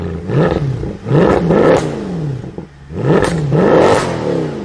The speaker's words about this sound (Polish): i w tej najmocniejszej odmianie motor M159 osiągał 517 koni, odmiana Black Series. Dźwięk silnika był